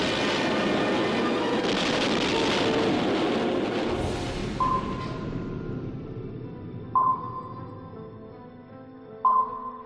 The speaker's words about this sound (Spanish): vas a ver y a oír la explosión y el hundimiento de un barco de guerra británico en la Segunda Guerra Mundial. Fue el 25 de noviembre de 1941 y este que vas a oír es el sonido original del momento de la explosión.